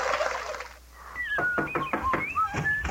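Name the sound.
turkey gobbling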